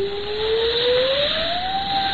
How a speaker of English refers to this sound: What's that? What? The cry. It is but a whistling of the wind. No! Listen. This sounds like the keen of a woman. I hear nothing but the storm.